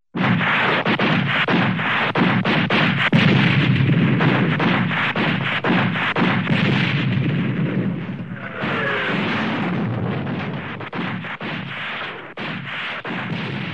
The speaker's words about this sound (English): Close on the leader's trail, the Cobras delivered their rockets next to his. The forest flew apart. Crockett hauled the Huey into a steep climb, flipped it over, and returned to the assault, this time with cannons blazing.